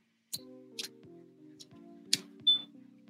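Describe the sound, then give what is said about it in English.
Faint, odd clicking: about five sharp, dry clicks land at uneven intervals over a low, steady humming drone, with no voices. “It's a weird click.”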